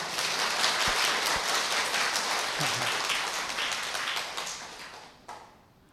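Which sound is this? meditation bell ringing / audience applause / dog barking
audience applause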